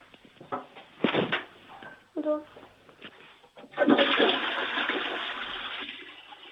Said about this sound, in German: Das ist ja eine tolle Klospülung.